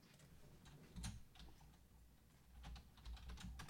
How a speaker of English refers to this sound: There was a thing you were typing into a search bar instead of the copy paste.